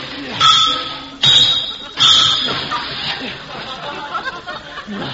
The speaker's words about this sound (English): Well, Alan seems to be having a little trouble today. He's out in his garage fixing his car. Car always gives me trouble. Better use this steel lever and the hammer again.